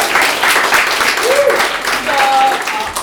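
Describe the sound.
A crowd applauds steadily for about three seconds, a dense, even wash of clapping at constant loudness, with a couple of brief voiced calls or whistles poking through.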